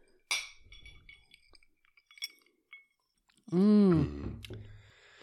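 glasses clinking

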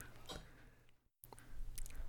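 sipping coffee

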